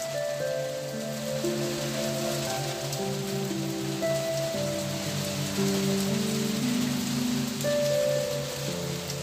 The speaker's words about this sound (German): Der süße Regen beruhigt sich bald und du blickst dich weiter um.